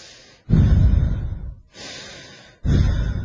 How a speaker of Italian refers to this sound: E quando uno respira produce suono.